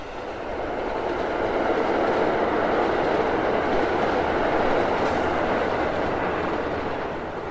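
A commuter train on its last run of the evening, heading to the depot in Älvsjö, rumbles steadily along the rails, a loud, continuous roar of wheels and carriage noise that swells in, holds for several seconds and eases off slightly at the end.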